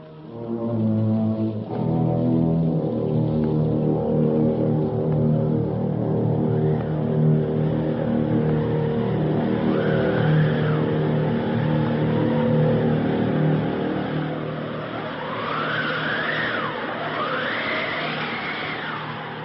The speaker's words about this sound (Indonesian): Tiba-tiba saja datang angin menderu-deru begitu dahsyatnya.